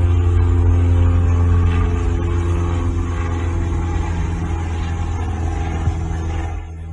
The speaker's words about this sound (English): I'm going to pause for the airplane.